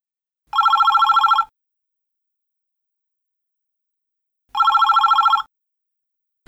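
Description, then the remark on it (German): A telephone rings twice, each ring a bright, rapid electronic trill lasting about a second, separated by several seconds of silence, with a third ring just starting at the end. “Verstehen Sie eine Mitteilung am Telefon?”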